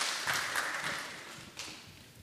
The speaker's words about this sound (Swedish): Vad duktiga ni var. Ska vi ge hela det här gänget en applåd också? Det tycker jag.